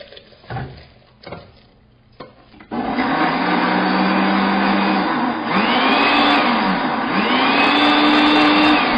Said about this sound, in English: So after you have cooked this tomato puree, what you do is transfer it into a blender.